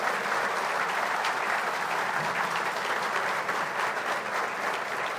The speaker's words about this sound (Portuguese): Eu quero iniciar cumprimentando o presidente José Sarney e até peço que todos lancem um aplauso, porque foi ele o criador do Ministério da Cultura.